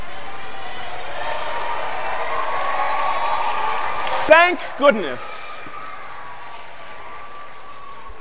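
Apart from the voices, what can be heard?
audience applause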